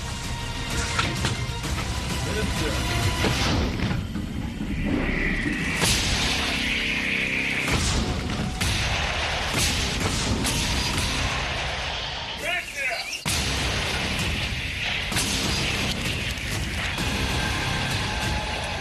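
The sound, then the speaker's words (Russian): A 152-mm self-propelled howitzer fires a few heavy, booming rounds at irregular intervals, with mechanical clanking between shots, heard beneath a man's steady narration. “Действуя по разведданным, полученным с беспилотников, батареи САУ «Акация» и гаубиц М-100Б наносят удары по колоннам ВСУ, командным пунктам и скоплениям живой силы и техники.”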